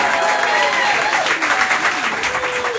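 Loud, continuous audience applause, dense clapping from a large crowd with a few cheers rising above it, sustained and even throughout, given to the keyboard and piano player during band introductions at a live music show.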